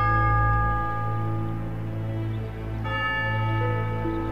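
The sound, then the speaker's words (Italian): Church bells toll with deep, resonant strokes whose humming tones linger and overlap. A fresh strike rings out midway, loud, with no voices. “E così, in un certo senso, anche se a distanza, il brigadiere Cesca sente anche lui i rintocchi delle campane che suonano sotto l'acqua del lago e dal fondo portano la voce dei fantasmi.”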